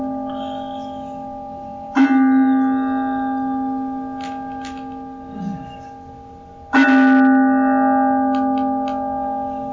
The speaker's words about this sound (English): In the Zen tradition, they call the bell the mindfulness bell. Because as they ring the bell, it brings our attention back into present moment awareness.